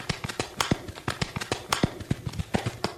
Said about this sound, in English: Running straight for the train, horse got the attention of the conductor.